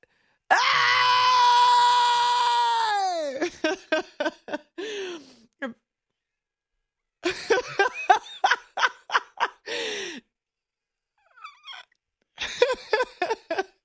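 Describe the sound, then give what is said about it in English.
A man lets out a loud, sustained guttural roar for several seconds, followed by clusters of short, choppy laugh-like bursts and further brief shouts. “It's just a guttural roar.”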